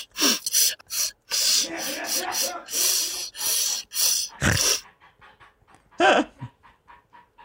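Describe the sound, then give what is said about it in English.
A dog with the sniffles pants in quick, breathy bursts with wet sniffles and snorts, the rhythmic huffing loud for several seconds before trailing into softer, faint sniffs. “He's got the sniffles. He does have the sniffles.”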